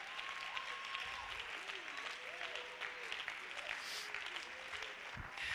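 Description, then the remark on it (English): An audience claps together in a dense, steady burst of applause lasting several seconds after a preacher asks them to clap, with faint voices and tones drifting underneath the clapping. “Oh, I know it's hard to clap now, but somebody needs to clap anyway.”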